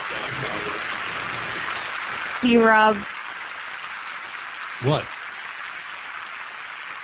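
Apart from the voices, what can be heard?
audience applause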